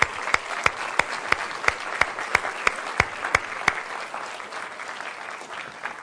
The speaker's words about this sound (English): Would you guys just stand up so we can clap and unbelievable. This is great.